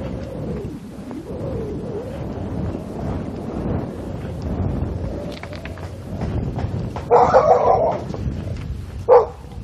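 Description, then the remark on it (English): A dog barks outdoors, a short burst of barks followed by one more a moment later, rising over a steady rumble of wind and background noise. “Might be a dog there, I think.”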